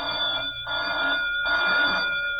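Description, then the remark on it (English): A bell rings loudly and continuously for a few seconds to wake a justice, its bright, metallic jangle surging in bursts about every half second, with no voices. “Oh, say, will you please ring the bell and stop wasting my time?”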